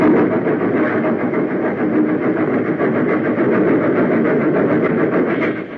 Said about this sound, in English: A hollow monster which protected the winding rails from drifting snows. Nearer and nearer it came, until finally the engine rushed into the funnel. And one by one, the cars followed.